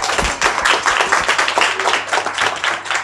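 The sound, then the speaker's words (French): A steady round of audience applause at an evening event bringing together women who work in cafés, many hands clapping at once in a dense, crackling texture that stays fairly loud and even for about three seconds, with no talking over it. “So, je veux juste dire un petit applaudissement.”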